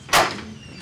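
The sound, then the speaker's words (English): A door shuts with one loud, sharp thud that rings briefly through the room and fades over a fraction of a second. No one speaks. “Rob, or something will catch that door.”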